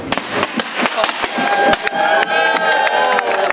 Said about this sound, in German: Ja, einen herzlichen Dank an das Jugendbündnis zum ersten Mal. Noch einen großen Applaus für euch.